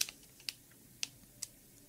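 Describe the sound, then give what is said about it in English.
Several crisp, clicky keystrokes on a computer keyboard, spaced about half a second apart in a slow, uneven rhythm, moderately quiet with no talking. “Let me look at the keyboard.”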